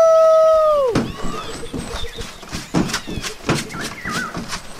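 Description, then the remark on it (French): A wolf's long, steady howl slides downward and breaks off after about a second, followed by a flurry of rough, angry snarling bursts mixed with clattering noise and a few thin, high chirps. “Le roi loup entra alors dans une colère folle et rugit après tout ce qui se trouvait aux alentours.”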